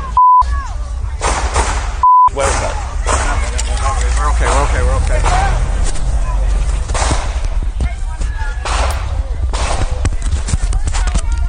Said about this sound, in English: Excuse us. It sounds like gunshots. I'll let you know what this is. These seem to be gunshots.